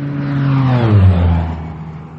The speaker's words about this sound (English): Excuse me, an airplane flew overhead and I couldn't hear.